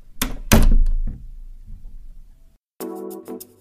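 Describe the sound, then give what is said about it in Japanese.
A shop door opens and thuds with two heavy bangs and a softer third knock, a low rumble trailing after, then a brief tonal, creaky sound near the end. “その時店の扉が開いてしずるさんに腕をつかまれた”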